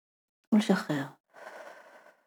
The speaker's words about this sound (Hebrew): נשימה עמוקה